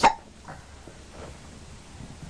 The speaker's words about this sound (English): Got hiccups.